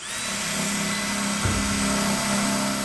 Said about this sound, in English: On a crisp, bluebird February afternoon, the sound of drilling echoes between two greenhouses at Churchill County High School. … instructs students to drill drainage holes in the oak barrels they're converting into planters.